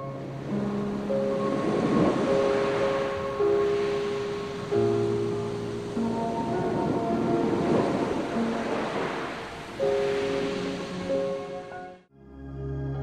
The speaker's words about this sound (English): The music and the sound of the ocean calmed me down on my way to sleep.